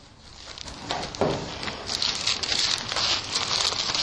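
Paper rustles and flutters as Bible pages are flipped to the Gospel of Matthew in quick succession, a soft crisp patter of several turns with a brief louder swish early on, no voices.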